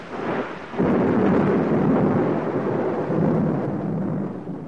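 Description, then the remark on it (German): A heavy cloudburst downpour hisses steadily while a deep roll of thunder swells in after a brief lull and rumbles on underneath, loud and sustained with no voices. “Das ist ein Platzregen.”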